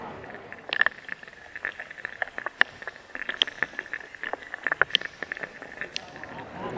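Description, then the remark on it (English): Underwater sounds from a garden pond: a steady bed of soft crackle scattered with sharp ticks, clicks and brief high chirps at an irregular, busy rhythm, with no voices. “But most of the time we miss it because it's underwater.”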